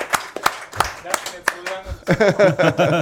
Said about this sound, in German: Wir klatschen durch, bis sie da ist.